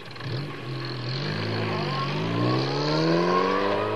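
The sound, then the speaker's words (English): A car engine revs steadily and loudly for several seconds as the car is driven down a ramp, its pitch climbing and wavering as it accelerates, with no voices over it. “You sure you can handle the car down the ramp?”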